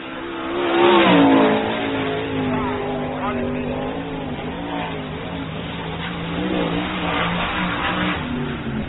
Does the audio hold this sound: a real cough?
no